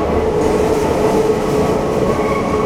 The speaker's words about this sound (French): La rame ralentit, elle arrive sur le quai